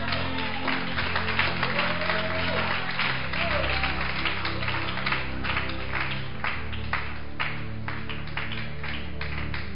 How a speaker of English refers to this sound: I think this is a good place to clap.